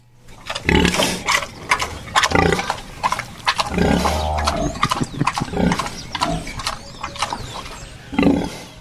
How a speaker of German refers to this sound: Dann erübrigt sich wahrscheinlich auch die Frage, ob ein Wildschwein anders grunzt als ein Hausschwein. Wir haben das Grunzen hier mal aufgenommen. Vielleicht können Sie mal raten, ob das von einem Hausschwein oder von einem Wildschwein ist.